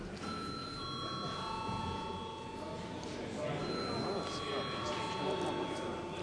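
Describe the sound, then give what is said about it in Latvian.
A parliamentary voting bell, called for by the chair before deputies vote on amendments, rings continuously for several seconds at a steady pitch, sounding over a constant murmur of many voices chatting. “Paldies, lūdzu zvanu.”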